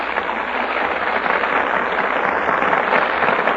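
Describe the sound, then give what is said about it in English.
Sustained audience applause in the Gulf Theater for the stars taking their places before the Gulf microphone for the radio play Torrid Zone, a dense, even wash of clapping that holds steady at moderate loudness throughout, with a thin, bandwidth-limited quality and no voices over it. “That applause is for our stars who have just taken their places before the Gulf microphone.”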